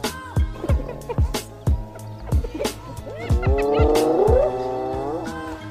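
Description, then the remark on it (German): A hyena screams in loud, wavering high-pitched cries that swoop up and down, swelling into a long sustained wail near the end, with sharp rhythmic thumps striking underneath throughout. “So hört es sich an, wenn eine Hyäne schreit.”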